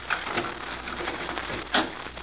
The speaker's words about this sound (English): All right, wait a minute. I gotta unlock the door.